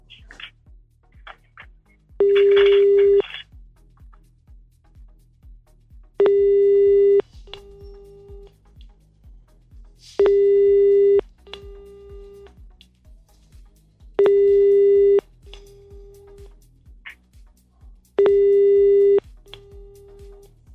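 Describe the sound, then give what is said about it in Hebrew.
A telephone tone sounds in five steady, evenly spaced bursts, each about a second long with a short trailing beep, over a faint low hum: an unanswered call placed from a studio during a program, the man called not picking up. “הבחור לא עונה, מה זה הדבר הזה?”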